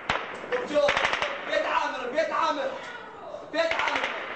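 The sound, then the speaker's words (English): Rapid bursts of sharp gunfire crackle in quick succession on a recording, with clustered cracks near the start and again toward the end, while an older brother shouts urgently over the shots for his young brother to get in the neighbor's house. “The interpreter says the child climbed over a wall to safety in the neighbor's yard as the firing continued.”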